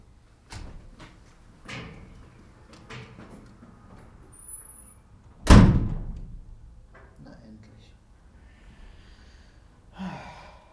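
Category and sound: household object, door being shut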